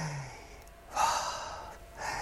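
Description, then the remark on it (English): A slow, deep breath drawn in and then let out, airy, with a soft rushing hiss on each phase and no talking. “So you breathe in and you breathe out.”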